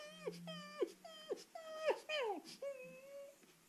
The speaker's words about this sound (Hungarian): Egy eléhezett szomorú kutya. Maga az Isten rendelte nekem ezt a kutyát.